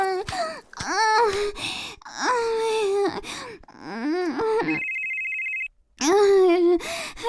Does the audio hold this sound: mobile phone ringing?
yes